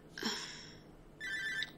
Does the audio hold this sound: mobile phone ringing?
yes